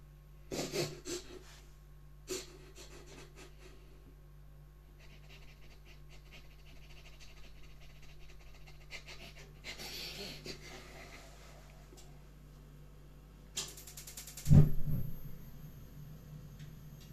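A dog pants steadily in otherwise quiet surroundings, with a low hum underneath and a sharper, louder snort-like burst near the end.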